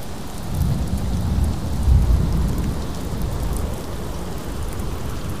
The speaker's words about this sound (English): listening to the wind and the rain, and oh yeah, certainly the occasional thunder.